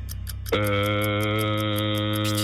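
A 30-second game timer ticks steadily during a word-association quiz, then a loud gong strikes and rings out, its bright sustained tone holding to the end while the ticking carries on faintly beneath it.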